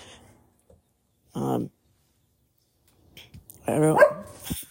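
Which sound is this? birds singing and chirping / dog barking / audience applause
dog barking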